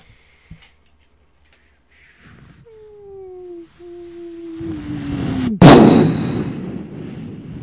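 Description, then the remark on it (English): A descending whistle drops in pitch for a few seconds, then a loud explosion bursts and rumbles out into a long, noisy fade; a voice is mimicking the sound effects. “For the record, your explosion sound effects are fantastic.”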